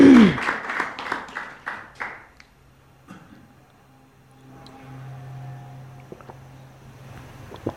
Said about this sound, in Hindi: ताली बजाओ सब इसके।